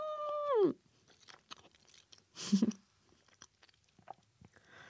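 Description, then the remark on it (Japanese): Soft, wet chewing of tender chicken from homemade samgyetang, broken up and mixed into the white soup, with soupy mouth clicks and smacks. A brief hummed 'mm' of enjoyment falls in pitch at the start, and a louder slurpy burst comes midway. “はい、これね、ほろほろ、あ、もう一応形はあるんだけども、 鶏肉がホロホロになってて、わーこれ鶏肉崩してまたこの白いスープに溶かして食べるというわけよ。”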